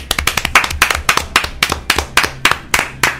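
A short burst of audience applause at a live show: crisp, fairly loud hand claps in a steady, even rhythm, several per second, with no talking over them.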